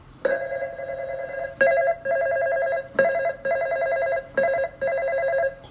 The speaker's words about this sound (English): David woke up from his dream and called John and Matthew on the phone.